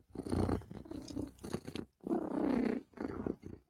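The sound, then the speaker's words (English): Loud purring of a female cat named Kat rumbles in several long breathy phases, separated by brief pauses, with no talking over it. “Because if Kat is purring, Kat is a happy, happy girl.”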